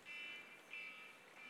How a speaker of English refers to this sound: It must be time for my sermon to be over. Who sets an alarm for 11:56 on Sunday morning?